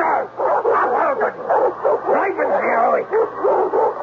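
A dog snarls and barks, its agitated growls and yelps running continuously for a few seconds with no pauses.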